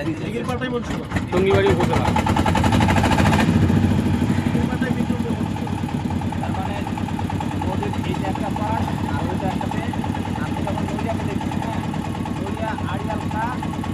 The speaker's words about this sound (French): Il y a une manivelle pour faire démarrer le moteur là, voilà. Il y a manivelle amovible.